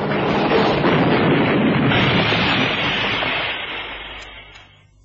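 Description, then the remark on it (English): A car skids sideways and crashes, a loud roar of grinding noise that holds for a few seconds before fading away. No one speaks. “They're turning. This won't hold. Get down, kid. We're sliding sideways.”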